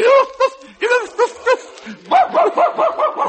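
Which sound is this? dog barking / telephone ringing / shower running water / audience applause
dog barking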